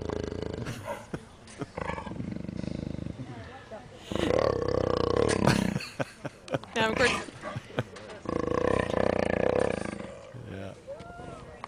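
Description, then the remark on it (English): A jaguar's deep, rasping growls come in two long surges, rough, with a brief spoken remark at the start and a pause between the rumbling bursts. “Well, we have a little sound of a jaguar growl.”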